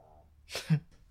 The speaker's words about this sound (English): Sorry, as I talk over Ninja. With his longest snore ever.